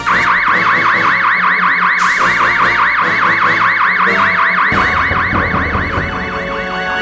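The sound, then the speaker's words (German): A starship red alert alarm blares loudly and steadily, a fast electronic whooping tone repeating several times a second for the whole stretch, with no voices over it. “Gehen Sie auf roten Alarm.”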